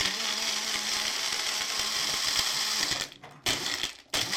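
A small personal blender motor whirs loudly and steadily as it crushes ice, which rattles and crunches inside, then cuts off briefly twice in short pauses before starting again near the end. No one speaks.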